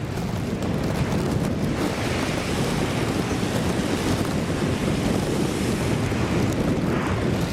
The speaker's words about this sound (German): Wellen prallen auf ein Riff und spritzen durch unterschiedlich große Löcher im Vulkangestein wieder hinaus. Die Blowholes im Königreich Tonga gehören zu den Touristenattraktionen auf der Hauptinsel.